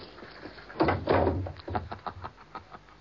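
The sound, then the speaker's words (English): A woman opens the door of a house with a creaking, scraping sound, followed by a string of quieter knocks and rattles as the door swings, without any voices. “It was indeed a woman who opened the door of Professor Smallbone's house to me”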